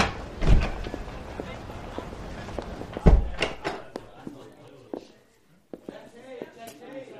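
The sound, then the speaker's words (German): The unlocked door of a police station is opened and then shut, giving two solid thumps about two and a half seconds apart, followed by quieter room noise and faint voices. “Nein, die Tür ist offen. Wir können einfach reingehen.”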